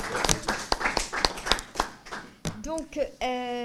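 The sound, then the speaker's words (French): A few people clap in a steady, fairly quick rhythm for a couple of seconds after a presentation ends, clear, then the clapping stops and a voice begins speaking. “Je sais pas, on avait applaudi tout à l'heure.”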